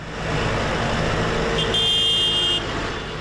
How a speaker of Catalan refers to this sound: Aquest era el moment en què els tractors arribaven al recinte firal d'Es Mercadal aquest dijous, convocats per les organitzacions agràries.